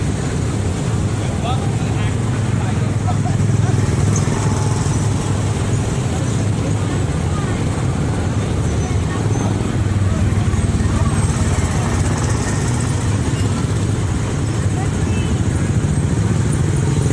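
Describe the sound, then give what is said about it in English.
Steady, loud engine rumble from cars pulling in and leaving while people wait for their cars to come in, a constant low drone with no clear pauses, and indistinct voices murmuring in the background. “Waiting for our cars to come in.”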